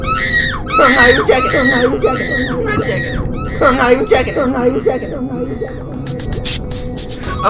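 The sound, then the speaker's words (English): A person screams angrily in loud, strained bursts, one harsh yell after another, with a steady hum underneath and some high, chirping noise near the end. “Scream all you want.”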